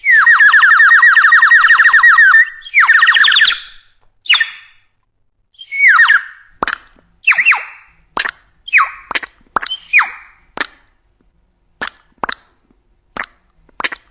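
A rapid series of bright, ringing plops and clinks of plums falling from a plum tree into glasses of wine on a table in a house courtyard on a summer morning, starting with a few sustained tones and then scattered sharp impacts at irregular intervals. No one speaks.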